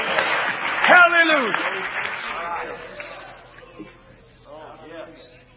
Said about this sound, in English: Give God a big old praise clap.